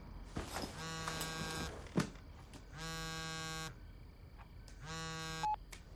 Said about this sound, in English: Later, a phone rings.